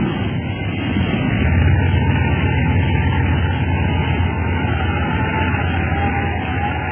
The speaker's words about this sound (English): I never thought you'd be able to make a dead stick landing in this windstorm. I didn't either for a little while, but I think we've won.